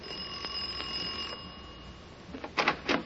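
A doorbell rings with a bright, steady electric tone for about a second and a half, then fades, followed by two short thumping clunks. No one speaks.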